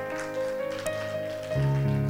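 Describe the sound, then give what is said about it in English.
A church audience claps their hands for God's word after a sermon, in a dense, steady patter that sounds almost like rain, over sustained keyboard or organ chords that shift to a lower, louder note near the end. “Clap your hands for his word today.”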